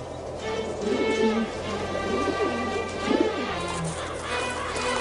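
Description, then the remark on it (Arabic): Doves coo in soft, low, repeated calls in the barren mountains of Bakka, several overlapping in a steady murmur that carries through the whole stretch at moderate loudness, with no one talking. “انظر يا جرهمي، كيف يأتي الطير إلى جبال بكة القاحلة؟”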